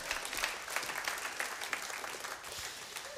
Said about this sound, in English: Yeah. Just go ahead and clap, that's all right.